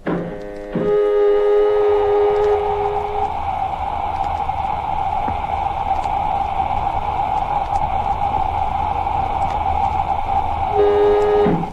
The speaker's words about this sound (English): We're in the airlock now, Doc. If Rogers is in the cabin, he should hear us operating it. Well, if he does, he gives no indication of the fact. Lemmy's calling him constantly, but gets no reply. Filling airlock.